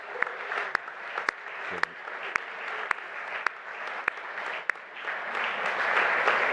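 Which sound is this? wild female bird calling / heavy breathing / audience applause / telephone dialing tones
audience applause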